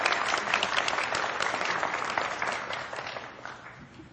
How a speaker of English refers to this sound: Yeah, round of applause is appropriate.